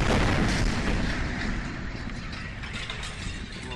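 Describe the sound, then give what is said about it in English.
The aftermath of a meteor explosion over Russia: a dense, loud roaring rumble with rattling, crashing debris and breaking glass, and car alarms, continuous throughout and easing slightly toward the end. No one speaks. “In this Associated Press recording, you can hear breaking glass and car alarms after it exploded over Russia, creating damaging shockwaves over a populated area.”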